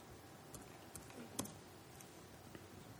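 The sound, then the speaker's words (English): A handful of light, irregular keystrokes tapped on a computer keyboard as a password is typed back in after the computer clicks off, each a short, crisp click against quiet, with no one talking. “this computer keeps clicking off, and I gotta go back and put the password in.”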